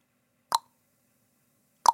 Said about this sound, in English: A drip. Yeah, that's a tap on.